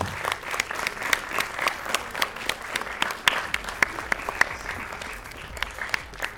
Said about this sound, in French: Alors tout d'abord, un grand merci aussi à nos partenaires. Regardez, vous êtes gâtés grâce à eux. Je vais vous demander de les applaudir pour leur dire merci.